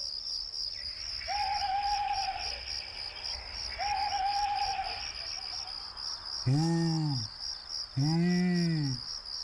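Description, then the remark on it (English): Two deep, rounded owl hoots ring out near the end, each a full harmonic call, over a constant high chirring of crickets and softer insect trills throughout. “Says a big owl.”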